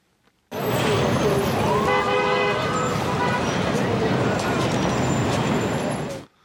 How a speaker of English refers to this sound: And here's a recording of Times Square in New York.